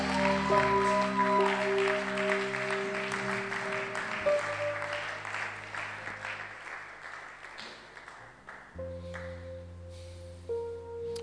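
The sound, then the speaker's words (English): An audience at a church revival service claps steadily and densely, a continuous wash of hand claps over sustained musical chords that change pitch partway through, with the clapping thinning slightly toward the end. “Oh, I thought you'd be clapping.”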